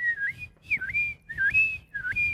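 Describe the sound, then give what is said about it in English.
A person whistles an imitation of a seagull call, a repeated swooping call in four short phrases, each dipping and rising in pitch, clear with no talking. “That's like a seagull.”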